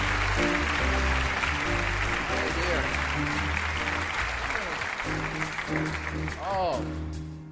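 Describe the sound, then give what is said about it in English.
An audience in Ithaca applauds loudly and steadily for several seconds as a guest is called up onto the stage, dense clapping with a few whoops and cheers rising over a humming, tonal background before it starts to fade. “We need more applause till we get there, you know? That's how this works. Applause.”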